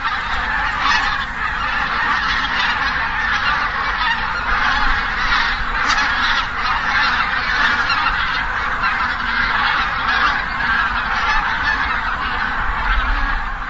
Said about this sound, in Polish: Pewnie większość z Państwa zna doskonale ten głos. Słyszeliśmy sobie właśnie teraz przelotne stado gęsi zbożowych. Zaczął się październik. Właśnie teraz zaczyna się okres przelotu tych ptaków przez terytorium naszego kraju.